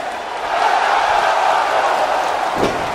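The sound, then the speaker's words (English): A large wrestling crowd chants the ten count in Spanish during turnbuckle punches, a loud, steady roar of voices that never lets up, with a brief sharp impact near the end. “The crowd chant in Spanish for the 10 count turnbuckle punches.”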